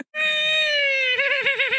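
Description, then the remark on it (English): A person imitates a frantic horse neigh with their voice: one loud, high, strained cry held steady, then breaking into a rapid quavering warble at the end. “That was like a frantic neigh.”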